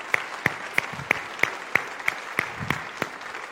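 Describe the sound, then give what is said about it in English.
Steady, evenly paced morning applause from an audience for mothers, roughly eleven sharp claps about a third of a second apart, over a faint hiss of background noise with no talking. “Can we give them one more round of applause this morning?”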